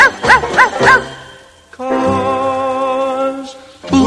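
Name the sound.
dog barking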